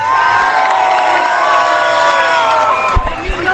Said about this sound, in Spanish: Quiero darle gracias al equipo de campaña. Un aplauso para el equipo de campaña.